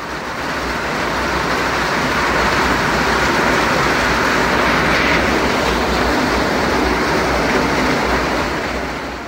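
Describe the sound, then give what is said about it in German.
A heavy, torrential downpour roars steadily and loudly throughout, a dense unbroken wash of rain with no voices or other distinct sounds. “Ich habe da eine Aufnahme von dir bekommen, da regnet es, dass man denkt, die Welt geht unter.”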